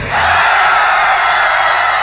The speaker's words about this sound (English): All you gotta do is scream as loud, scream as loud, scream as loud, scream as loud, scream as loud, loud, loud, loud. Scream as loud as you can.